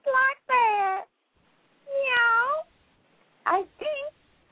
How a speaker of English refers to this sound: "Meow! Fancy that!" said Miss Cat.